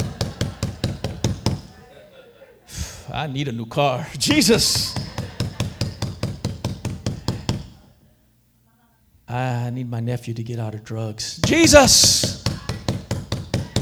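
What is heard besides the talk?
repeated knocking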